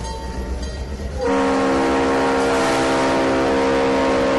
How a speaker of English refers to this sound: that was the sound of the Lake Washington, the Spirit of Washington dinner train leaving Renton for the last time